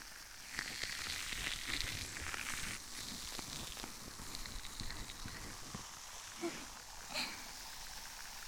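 Dense, irregular crackling and popping fills the ear, a steady rush of tiny sharp clicks like sizzling, with a few brighter pops standing out near the end.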